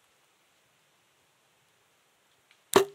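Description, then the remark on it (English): Near silence with a faint hiss, then a single sharp snap of a bowstring as an archer releases an arrow from a bow, with a brief low twang ringing out at the very end. “There we go, let the arrow fly.”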